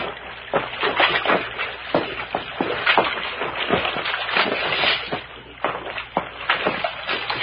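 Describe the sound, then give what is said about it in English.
Footsteps wade through shallow, rocky creek water in a ravine, with irregular splashes and sloshes over a steady rush of flowing water, fairly loud, and no voices. “Follow down this creek to where we saw the girl in bathing.”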